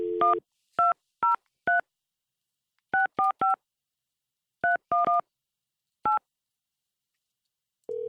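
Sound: telephone keypad dialing tones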